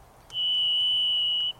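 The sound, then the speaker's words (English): A varied thrush song: one long, steady, high whistled note held for over a second at an unchanging pitch, loud and alone against a quiet background. “Varied thrushes are not often heard in the urban and suburban habitats of the Puget Sound region today because the lowland conifer forests cover less than 1% of their original area.”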